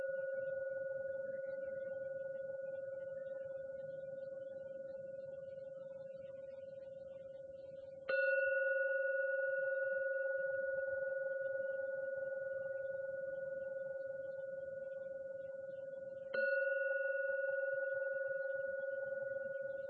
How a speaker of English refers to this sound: I will now ring the gong 3 times to end the meditation. Listen to every sound of the gong, and let the 3rd ringing of the gong bring you out for meditation.